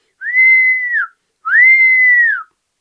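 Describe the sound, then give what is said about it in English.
A police officer's whistle blown twice, two long, steady blasts of about a second each with a short pause between, loud, with a slight rise at the start and drop at the end of each. “But he too was also hungry, and when he saw the gingerbread man running towards him, he put his whistle to his mouth and blew.”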